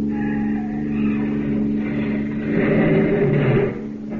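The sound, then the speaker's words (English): Police car engines rumble steadily, then surge louder and rougher for a moment as the vehicles accelerate, with no voices over the continuous motor noise. “Police cars. He's seen them.”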